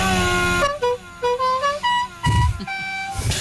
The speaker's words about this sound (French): Des fan clubs existent dans le monde entier comme ce passionné, tout fier de montrer sa nouvelle voiture et surtout son klaxon magique. Ça c'est le klaxon dit normal. Et maintenant, le bouton magique.